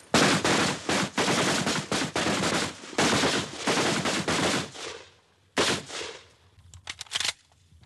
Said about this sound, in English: He levels his rifle at the paper silhouette of a man and coolly pulls the trigger.